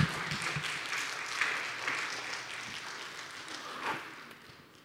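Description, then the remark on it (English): A church audience claps together in a dense, steady patter of many hands, swelling briefly a couple of times before tapering off toward the end. No one speaks over it. “It's just clap”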